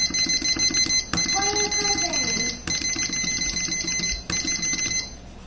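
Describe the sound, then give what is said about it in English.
A mechanical kitchen timer ticks steadily and quickly, with a few sharper clicks and a faint ringing hum as the dial is turned and set for 45 minutes while brownies bake. “Hate this timer. Okay, let's use this one instead. It's actually functional, which is a plus in my opinion.”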